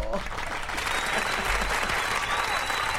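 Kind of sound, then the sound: crowd, applause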